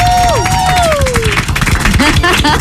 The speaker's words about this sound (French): Et ce matin, je voudrais que nous applaudissions tous ensemble celui qui anime vos nuits sur Fun Radio